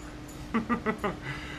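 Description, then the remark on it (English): A dog named Ginger lets out a quick run of four sharp, high barks in about half a second, fairly quiet, over a steady low background hum. “Calm down, dog. Sunshine's going to go get the dog and quiet her up.”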